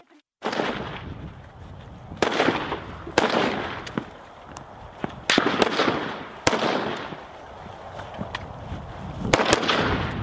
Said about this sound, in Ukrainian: Дивіться, хлопці, стоїмо на рубіж відкриття вогню. Автомат на запобіжнику. Не забуваємо, що ми дублюємо всі команди, тому що при пострілах ми можемо когось не дочути.